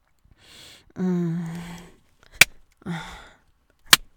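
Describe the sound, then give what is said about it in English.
Two sharp, loud hand slaps on the buttocks land about a second and a half apart, part of a count toward fifty slaps, each preceded by a drawn-out vocal moan or gasp. “So he says, or 50 slaps.”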